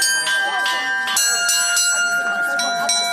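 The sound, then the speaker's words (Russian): Church bells from a mobile belfry peal in a morning ringing over the Arbekovo microdistrict of Penza, Russia, overlapping and steady, several bells struck in quick succession with long shimmering tones layered over one another, loud with a faint murmur beneath. “Голос многотонного гиганта пензенцы не услышали, но утренний благовест над микрорайоном Арбекова все-таки разнесся.”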